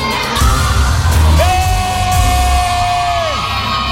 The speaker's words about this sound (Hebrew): תביא לילדה הצדיקה שמאחורייך, כי היא צעקה הכי הרבה.